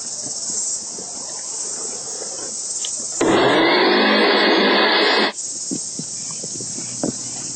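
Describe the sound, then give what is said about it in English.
A kitchen blender blending a mixture containing three pitted medjool dates roars for about two seconds in one loud, steady burst, then stops abruptly, while a constant high chirring of insects continues in the background throughout. “And now, we just need to blend it.”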